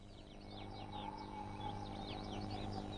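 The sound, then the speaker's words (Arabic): A dense chorus of seabirds calling at a nesting colony on Heron Island, a small coral cay, where many seabird species settle, mate and raise their young; many overlapping high chirps and squawks from several directions over a steady low background rumble, with no one speaking. “تستقر أجناس عديدة من طيور البحر وتتزاوج وترعى صغارها هنا، وعن طريق الصيد في البحر وجلب طعامها إلى الشاطئ ساعدت طيور البحر في تشكيل الجزيرة.”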